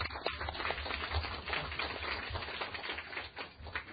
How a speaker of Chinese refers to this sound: 咁咧特别咧就系、是、欢迎呢一、个咧就系、是、房屋处嘅秘书长柏志高先生到我哋今日嘅会议嘅。咁啊，大家俾啲掌声先啊！